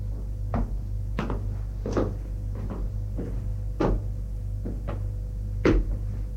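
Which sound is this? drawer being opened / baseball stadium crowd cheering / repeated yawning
drawer being opened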